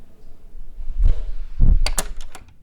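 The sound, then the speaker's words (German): An office door is handled: two dull thuds, then a quick run of sharp metallic clicks like a latch catching, with no one talking. “So, ich bin jetzt eine Tür weitergegangen in das nächste Büro”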